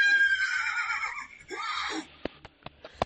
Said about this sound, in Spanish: Y este sonido de caballos al galope nos sitúa en la leyenda del espíritu del Calatravo.